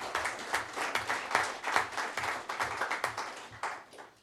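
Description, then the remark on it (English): A crowd applauds an absent Davis County clerk's office elections employee for a 5-year service milestone, many hands clapping in a dense, crackling wash with frequent sharp individual claps standing out, holding at a moderate, even level throughout with no voices. “Let's still give her a round of applause.”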